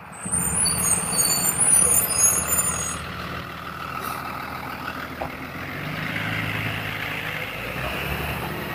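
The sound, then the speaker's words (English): A school bus, opening with a sharp hiss of air brakes over a deep diesel rumble, then idling and revving steadily with no voices. “School bus.”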